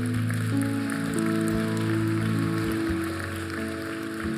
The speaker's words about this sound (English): Yeah, why don't we just applaud these and the courage it took.